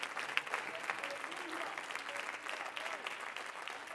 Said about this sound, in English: Would you clap your hands right now unto the Lord if you're thankful for his word?